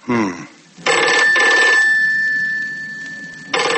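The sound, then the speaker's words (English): A loud telephone bell rings in a quick double burst, its metallic tone lingering and fading before ringing again; a voice is briefly heard just before the ringing starts. “She said she'd phone again later.”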